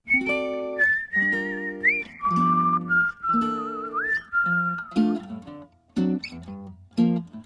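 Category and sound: human body sound, human whistling a melody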